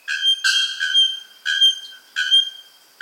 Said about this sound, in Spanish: El pájaro campana se considera una especie indicadora clave, por lo que escuchar su fuerte sonido sugiere que se encuentra en un ecosistema